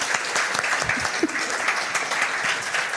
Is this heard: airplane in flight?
no